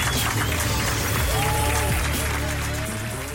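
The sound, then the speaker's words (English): A crowd claps and applauds steadily for a few seconds, dense and continuous, with faint voices and cheering mixed into the broad wash of clapping, as people across the UK, including Greater Manchester, clap together at 8 o'clock to thank NHS staff. “And across the country, Greater Manchester and the entire country, we are clapping together to thank our wonderful NHS.”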